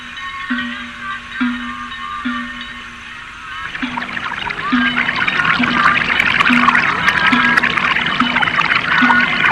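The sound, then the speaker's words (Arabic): Running water from a spring bursts in after a few seconds and keeps flowing and trickling steadily and fairly loud, over a low, evenly repeating pulsing tone that runs throughout. No one speaks. “إنها عين ماء يا أبا طالب، إنها معجزة يا إنها كرامة ابن أخي محمد.”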